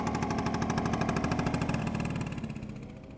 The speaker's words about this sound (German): Ich fahre auf dem E-Roller von Selina mit.